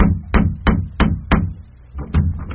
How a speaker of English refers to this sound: Well, so, here he is, banging the knocker on that lady's portal.